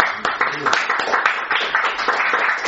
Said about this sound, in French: On applaudit notre frère.